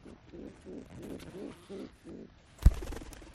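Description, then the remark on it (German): Soft, rhythmic low cooing from a nursed-back-to-health pigeon in a zippered carrier box, then near the end a loud flurry of flapping wings as the box is opened and the pigeon is released to fly free. “Das klingt doch nach dem Flattern der Freiheit.”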